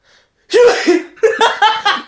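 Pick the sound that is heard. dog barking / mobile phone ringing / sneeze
sneeze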